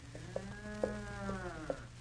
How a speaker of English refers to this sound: Oh, that's just an old cow mooing. Sure, but she's in trouble of some kind.